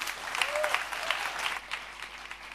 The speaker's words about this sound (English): Great applause from our group, ….